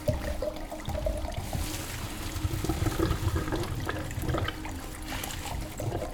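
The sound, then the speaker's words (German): Wine pours into glasses in a steady, gurgling trickle that runs for about six seconds at a moderate level, with small splashy bursts along the way and no voices. “Oh, du hast den Wein schon in die Gläser gefüllt.”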